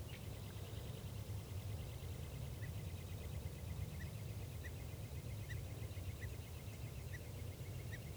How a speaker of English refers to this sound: Okay, bird one there is a male perched right above the net, and this is him getting some song phrases.